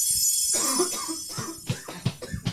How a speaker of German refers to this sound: Genau, habt ihr das gehört gerade, wie der Mann gehustet hat gerade?